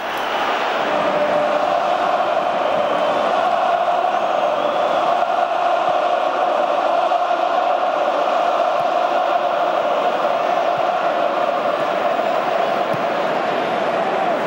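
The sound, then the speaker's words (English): A large football stadium crowd shouts and roars continuously after Vinícius Jr. attempts a rainbow flick, a dense, steady wall of massed voices holding at a loud, even level for the whole stretch without breaks. “attempting this rainbow flick here and what we heard in the stadium afterwards.”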